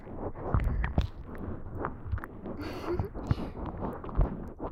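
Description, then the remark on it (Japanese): Dense crackling and popping of soap foam being used to clean ears, a steady fizz of tiny snaps with a few louder pops scattered throughout, with no talking. “泡の音パチパチして気持ちいいでしょ。”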